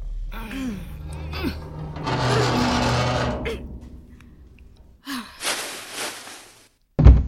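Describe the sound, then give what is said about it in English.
Heavy elevator doors are pulled open by hand with two long, grinding scrapes, mixed with strained gasps and effortful breaths, then a sharp thud at the end. “Help me pull the doors open.”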